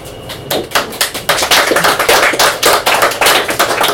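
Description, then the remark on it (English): An audience at a poetry reading claps after a poem, a dense patter of overlapping hand claps that starts up after a brief pause and continues steadily at a fairly loud level, with no one speaking over it. “It's very nice of you to clap, but you don't have to clap through each one.”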